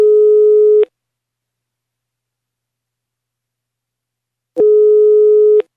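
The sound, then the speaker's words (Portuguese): A telephone ringback tone as a call is placed to a man's wife: two steady, mid-pitched electronic beeps about a second long each, separated by nearly four seconds of silence, with no voices. “Vamos ligar pra sua mulher aqui.”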